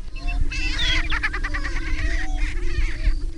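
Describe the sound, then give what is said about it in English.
A chorus of male grouse-like birds, about 16, all males, displaying at dawn on a booming ground on a cold prairie, watched from a blind, fills the air with overlapping cackling, cooing and clucking calls, several at once, against a steady low background rumble with no talking. “More birds arrive, all males.”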